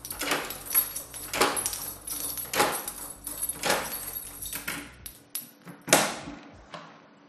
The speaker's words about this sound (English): It was midnight when Detective Harrison of the NYPD knocked on the door of Rick's flat. Rick opened the door.